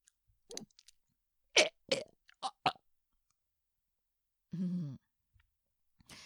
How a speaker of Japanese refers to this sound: ゲップで喋ろうとすると、うん、こうやって今はおって言おうと思ったんだけど、こうゲップの息を使って喋ろうとすると結局同じ音になってしまう。だから喋りながらゲップをする。